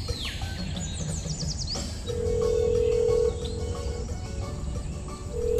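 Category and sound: signal or alarm, phone ringing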